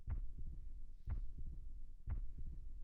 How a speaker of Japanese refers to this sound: ね、反対の耳にも聞かせてあげるね。ほら、ドキドキ、ドキドキ、ドキドキ。